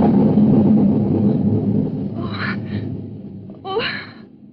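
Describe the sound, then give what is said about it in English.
A deep, rolling rumble of thunder fills the start and slowly fades, with a couple of sharp gasping breaths breaking in near the end. “It was only thunder.”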